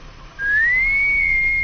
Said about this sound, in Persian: چرا هی سوت میزنه؟ خب این چیه بابا؟